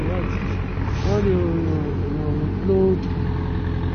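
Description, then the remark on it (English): A disinfectant sprayer sprays a coffin at a burial, running with a steady, loud mechanical drone and hiss, like a vacuum cleaner, holding constant for the whole stretch while muffled voices briefly break through. “I don't know if you can hear that sound, that spraying sound.”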